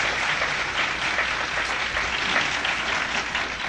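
Steady audience applause, a dense wash of many hands clapping at an even, fairly loud level throughout with no voices standing out.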